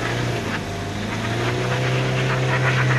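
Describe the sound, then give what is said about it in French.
A 4x4 engine roars steadily, with a continuous low hum and rising, whining revs as its wheels spin for grip on a snowy road while reversing, loud and sustained throughout. “Ça patine. Marche arrière, mais bon, ça va le faire.”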